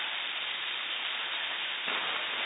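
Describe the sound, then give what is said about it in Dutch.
Steady, dense radio static hisses without a break for about two and a half seconds, with a slight surge near the end. Any faint FT8 digital signals stay buried beneath the noise. “Signaaltjes. Diep onder de ruis. Een bijzondere mode, FT8.”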